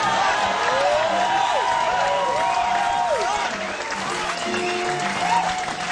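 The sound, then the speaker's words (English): Sustained, loud applause from a large crowd for the band fills all six seconds, with scattered whistles and cheering voices rising above the steady clapping. “If you have a soul, let's give the band a big round of applause.”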